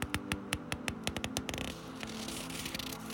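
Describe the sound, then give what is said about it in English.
Crisp, irregular crackles of the paper pages of a book being handled while reading aloud, a quick run of sharp snaps that gives way to a steady, papery rustling wash. No voices. “I'm reading out of a book, and you can hear because it's the paper.”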